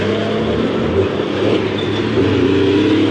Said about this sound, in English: Oh, I hate trucks.